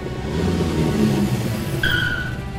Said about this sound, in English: A motorbike with two men stops.